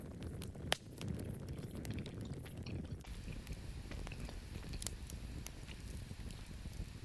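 Someone chews a mouthful of food for several seconds, producing a steady stream of soft, moist crunching and clicking sounds with one sharper snap early on. No one speaks.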